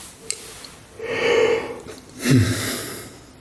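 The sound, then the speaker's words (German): A voice imitates a long yawn: a breathy inhale, then a drawn-out, slightly voiced exhale that rises and trails off, moderately loud, with no talking. “Bach gähnte schon wieder.”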